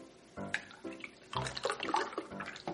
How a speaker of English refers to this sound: Alright, I'm gonna pour me some chocolate milk just like Mommy taught me.